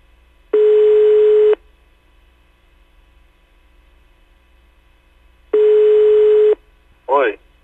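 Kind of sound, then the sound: signal or alarm, telephone call ringing tone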